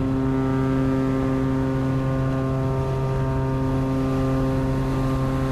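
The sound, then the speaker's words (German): A boat's engine drones steadily, a constant low hum with strong tonal harmonics and a faint rush of wind and water, no voices. The boat is travelling across Sydney Harbour in Sydney, Australia, passing the Opera House and Taronga Zoo. “Und auf dem Boot, da haben wir dann auch gleich nochmal eine richtig schöne Strecke vor uns.”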